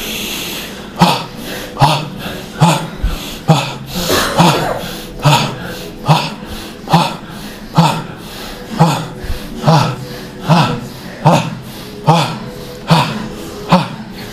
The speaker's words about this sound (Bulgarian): Мощно дишане. Гърдите се раздуват, спускат. Вдишването е два пъти по-продължително от издишването. Дишване, издишване, дишване, издишване, вдишване, издишване.